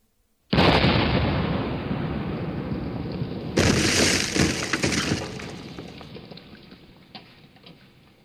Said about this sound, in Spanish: De repente, el buque de guerra se llenó de humo y lanzó el primer cañonazo contra el dique.